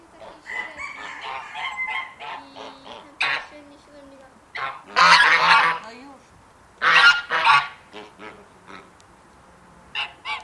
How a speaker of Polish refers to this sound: Słyszymy odgłosy gęsi, kaczek, kurek liliputek i zielononóżek. Także mamy tu ogromne zróżnicowanie gatunkowe. Ptaki te wpisują się właśnie w krajobraz skansenu i dopełniają go.